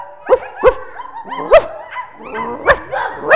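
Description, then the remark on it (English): Several children's voices imitate a dog barking, letting out short, sharp woofs and yips at an irregular pace, sometimes overlapping one another, loud. “What's something else we could imitate? A dog. How would we imitate a dog?”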